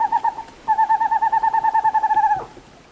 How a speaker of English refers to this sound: The western screech owl, a small owl about 8 inches high of western forests.